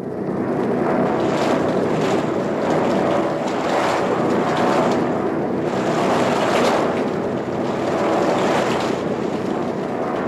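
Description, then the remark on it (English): A steady, loud aircraft engine drone as the plane flies into a cloud, filling the whole stretch with no pause, a dense roar carrying slow, rhythmic swells and a rushing, wind-like hiss over it. No one speaks. “So one of these damned engines don't crack.”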